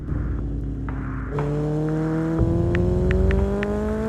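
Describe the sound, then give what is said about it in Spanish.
A motorcycle engine drones steadily as it travels along a road, its pitch rising and shifting through gear changes, fairly loud with no voices. “La moto circula per una carretera.”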